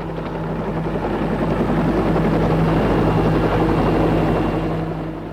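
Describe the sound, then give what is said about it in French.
A helicopter's steady, loud rotor drone fills the scene, a dense low throbbing roar with a constant hum that stays unbroken throughout, as helicopters fly over a city. “Pendant une semaine, les hélicoptères, les ballons dirigeables, les avions sillonnent la ville.”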